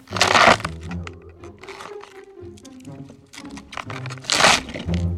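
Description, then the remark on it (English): Loud, wet crunching and snapping of a celery stalk being broken and crushed as foley for the bones of a hand being crushed by a mallet, with two sharp bursts at the start and near the end and crackling fibrous breaks in between. “To reveal what I'm using is just a stalk of celery.”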